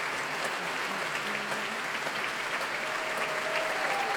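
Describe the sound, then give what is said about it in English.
Steady, dense applause from a large audience at the Royal Albert Hall for the BBC Big Band, a continuous crackle of many hands clapping at an even level throughout, with a faint whistle rising near the end. “A fantastic reaction from the crowd here at the Royal Albert Hall.”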